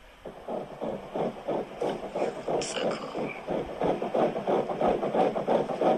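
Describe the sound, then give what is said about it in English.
A fetal heartbeat at about 8 weeks, picked up by an ultrasound doppler at a doctor's visit, beating around 169 beats per minute: fast, steady whooshing pulses repeating over a grainy electronic hiss, fairly loud and continuous, with no one talking. “do you want to hear the heartbeat of my baby?”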